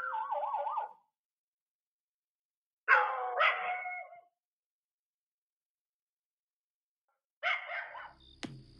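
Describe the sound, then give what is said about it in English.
Dogs bark at 1:30 a.m. in three short, separate bursts with quiet gaps between them. The barks are moderately loud and have a yelping, wavering edge. No one is talking. “One, get your dogs inside.”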